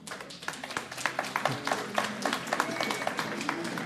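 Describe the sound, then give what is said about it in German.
Scattered applause from part of an audience: a few hands clapping in a steady, uneven patter of sharp claps at moderate loudness, with a faint murmur of voices underneath. “Also das war jetzt kein ungeteilter Applaus mehr.”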